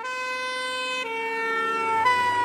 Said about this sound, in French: Nous avons tous vécu cette impression. Une voiture de pompiers s'approche de nous. Et sa sirène nous semble de plus en plus aiguë.